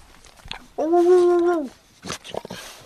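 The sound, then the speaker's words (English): A dog, the model for a dog sculpture, gives one sustained, even vocalization lasting under a second, a bright howl-like note, followed by brief sounds that may be people talking. “He sounds happy about being the inspiration.”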